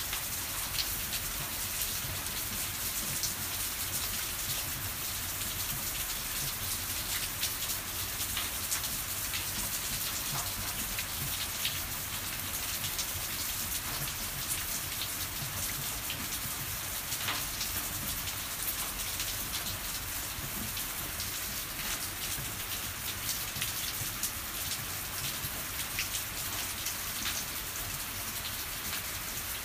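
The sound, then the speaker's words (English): Heavy rain pours steadily onto hard surfaces, a dense, continuous hiss with scattered pattering drops, loud throughout with no voices; a sudden downpour after a sunny hot day, with overflowing water falling onto an old food waste bin. “Lovely though, this rain, lovely.”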